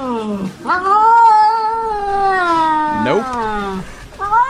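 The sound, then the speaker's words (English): A cat lets out long, wavering caterwauls, drawn-out yowls that rise and bend in pitch, one after another with a short break, loud, with no one talking. “So if your cat is asking you a question, you better answer your cat.”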